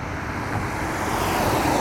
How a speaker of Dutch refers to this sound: Hier is geen zebra, hè? Ik hoor een auto aankomen.